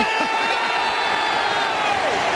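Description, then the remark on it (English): A fan in the Western stand cheers wildly at an Eddie Betts goal: a loud, sustained, unbroken roar of shouting voices with shrill whoops riding on top, holding steady for a couple of seconds. “Every time you go near the ball, he goes absolutely nuts.”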